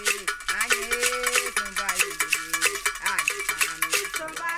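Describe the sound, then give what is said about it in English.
A bright metallic bell taps a steady, rolling triplet pattern, dividing the beat into triplets that suggest a 12/8 meter, sounding through the music over sustained singing voices and other percussion at a moderate, even volume. “The bell divides the beat into triplets, suggesting a 12/8 meter.”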